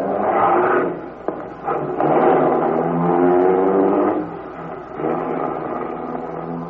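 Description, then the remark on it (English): A getaway car's engine revs loudly and accelerates, its pitch climbing and surging in waves over several seconds, with a brief sharp knock early on and no voices. “Here comes the car.”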